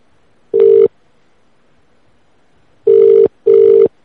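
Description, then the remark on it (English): A phone line sounds three short, loud electronic tones, one alone and then a quick pair after a pause, as a call is transferred to a different phone, with no voices and only faint line hiss between them. “I transferred it to a different phone so I could hear it better.”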